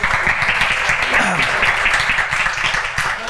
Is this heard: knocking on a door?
no